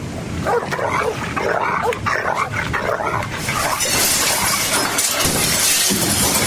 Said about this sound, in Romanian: Acum o să vă sfâșiem, o să vedeți și voi ce colți ascuțiți avem. O să vă devorăm. O să vă devorăm. Așa le-au spus câinii și au mușcat de chipuri.